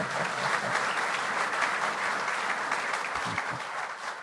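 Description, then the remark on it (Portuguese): An audience applauds Congressman Alex Canziani, clapping steadily for about four seconds, a dense, even wash of many hands that holds its level throughout and fades only slightly at the end. “Até vou pedir um aplauso a ele, porque ele me agradou tanto.”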